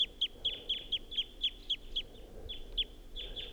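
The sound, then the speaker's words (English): A wild bird's flight song, given from up in a tall pine above a net: a rapid, even series of high, sharp chirping notes, about four per second, briefly pausing and then resuming. Moderately soft, with no voices. “That wild bird is up in the tall pine above the net and was giving flight song and song phrases.”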